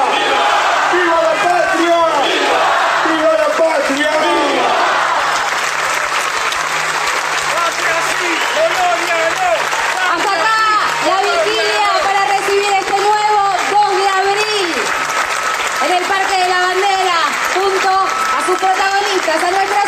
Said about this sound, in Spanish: Que siga el aplauso bien fuerte por Rosario, por nuestros héroes, por Argentina, por las Malvinas, que son y serán siempre argentinas.